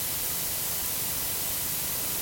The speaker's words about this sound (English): Of course, we can tilt it the other way, toward the hissing high end of blue noise.